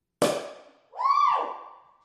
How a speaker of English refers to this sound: Daddy Gang, it's time to pop some fucking champagne.